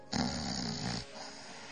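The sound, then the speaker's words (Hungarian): A person imitates a single loud snore, a rough, rattling inhale lasting just under a second, followed by quiet room tone. “Oké, tehát ott van szunyóká, lehet, hogy horkol.”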